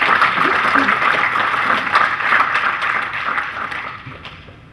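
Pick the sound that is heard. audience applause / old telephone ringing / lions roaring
audience applause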